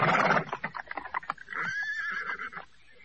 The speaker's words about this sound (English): The doors remained closed, the coaches stood still, and the horses pawed at the frosty cobbles.